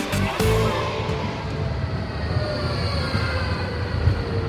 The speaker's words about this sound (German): Gut, da kommt das Tram, wir müssen das nehmen. Welches müssen wir nehmen? Drei brauchen wir.